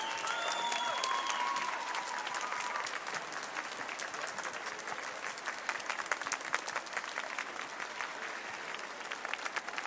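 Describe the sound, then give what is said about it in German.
A large audience at a trade-fair convention claps loudly and continuously as Yusei Matsui is welcomed onto the stage, a dense sustained roar of applause with a few faint whistles early on, lasting the full duration. “Und jetzt wollen wir ihn auf die Bühne bitten. Und zwar bitte mit einem donnernden Applaus.”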